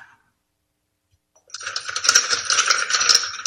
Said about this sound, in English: The door is shut and the chains rattle.